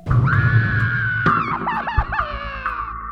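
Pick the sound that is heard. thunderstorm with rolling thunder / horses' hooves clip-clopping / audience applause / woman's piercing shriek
woman's piercing shriek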